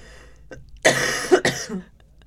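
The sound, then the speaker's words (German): Two harsh coughs in quick succession, the first longer and raspier, the second shorter, with no talking around them. “Ich habe gar keinen Husten eigentlich.”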